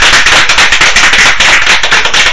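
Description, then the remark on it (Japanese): Loud, steady applause from many hands for Kanzaki-sensei, a dense crackling patter of claps with no voices on top. “まあ、最後にじゃあトイック会の中で僕たちとかね、聞いてる皆さんをつなげてくれた神崎先生に最後に皆さん拍手していただきたいと思います。”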